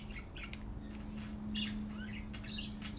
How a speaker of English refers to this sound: Look at that bird. Yeah. It's freezing. You should put him inside.